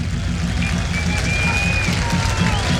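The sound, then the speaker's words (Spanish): A big stadium crowd at the Monumental applauds as Leandro Hernández comes on as a Colo Colo substitute, in a steady, dense wash of clapping over a low crowd rumble, with a few thin whistles rising above it, sustained throughout and fairly loud. “Aplausos. Aplausos del respetable.”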